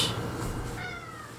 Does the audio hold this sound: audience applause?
no